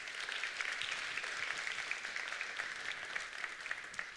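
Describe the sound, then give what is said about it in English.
An audience applauds its deacons steadily for several seconds, a dense, even wash of many hands clapping with no pauses and no voices standing out. “You guys, can you guys give another round of applause for our deacons?”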